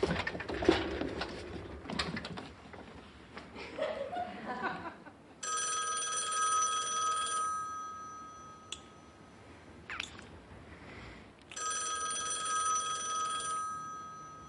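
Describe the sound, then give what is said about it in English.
A telephone bell rings twice, each ring a sustained, bright metallic trill lasting a few seconds, following some clattering noise at the start. The rings are loud. “Aren't you gonna answer the phone? Is that the phone?”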